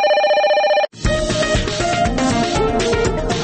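A loud electronic telephone ring sounds for just under a second, then cuts off abruptly as dense, busy music starts up in its place.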